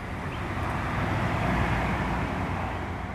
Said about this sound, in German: Keine knallenden Peitschen sind mehr zu hören, keine Schreie des Schmerzes, der Willkür, des Sadismus, nicht die Hetzjagd der Hunde, nur unser Wagen, mit dem wir unterwegs sind durch eine idyllische Landschaft.